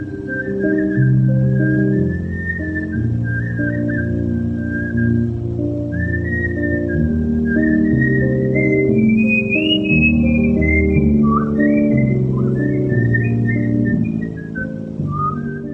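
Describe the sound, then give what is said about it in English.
A person whistles lengthy choruses of music hall favourites, the melody rising and falling steadily for the whole stretch over a loud, sustained low droning background. “He began whistling lengthy choruses of music hall favorites.”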